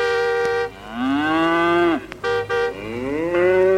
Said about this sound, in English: Other methods were then developed, such as making noises that would carry a long distance. One of these was blowing into animal horns.